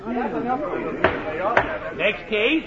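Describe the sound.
A reform school door shuts behind a boy with two sharp, heavy thuds about half a second apart, heard over a continuous murmur of several people talking.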